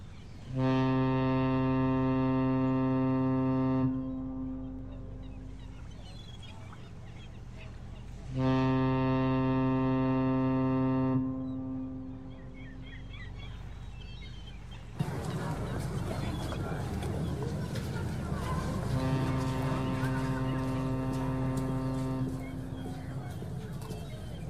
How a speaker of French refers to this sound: La navette accoste